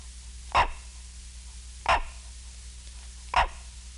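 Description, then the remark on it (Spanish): A monkey, stimulated at a point in the right thalamus, gives three short, sharp bark-like calls, spaced about a second and a half apart, each loud and abrupt against a quiet background with a faint steady hum. “Y la vocalización cambia.”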